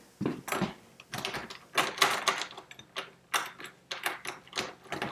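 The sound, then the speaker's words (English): Someone rattles and jiggles a locked door, a series of sharp metallic clunks and knocks in quick irregular bursts, fairly loud, with no voices. “That door won't unlock unless I want it unlocked.”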